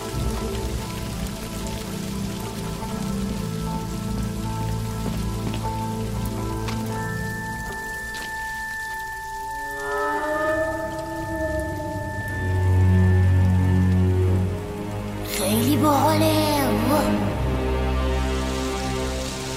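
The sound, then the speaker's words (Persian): Steady rain patters on a surface throughout, mixed with layered tonal music and low rumbles, with a brief bright swell near the end. “مامان گفت بارون نریم اونجا.”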